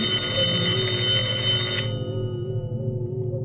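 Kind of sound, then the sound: household object, telephone ringing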